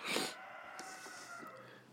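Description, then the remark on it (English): A rooster crows just after 2 o'clock in the afternoon: a harsh, breathy burst at the start, then a long, strained, drawn-out call that holds steady for well over a second before trailing off. No one speaks. “Sorry if you hear the rooster back there.”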